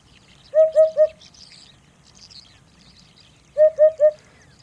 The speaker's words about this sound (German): Ich weiß nicht, kennst du den Wiedehopf? Also Vogel? Genau, das ist der Vogel mit dem aufstellbaren Federkamm. Ziemlich exotisch, der Punk sozusagen unter den Vögeln. Der tönt so.